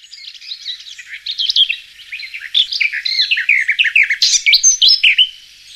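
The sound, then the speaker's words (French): A lesser whitethroat warbler sings a rapid, scratchy chattering warble of tumbling high notes, clear, running continuously for several seconds with no voices or other sounds around it. “La fauvette babillarde.”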